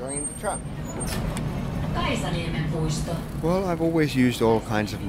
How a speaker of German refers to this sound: stoßen wir auf die Linie 9. Die Straßenbahn rollt pünktlich ein.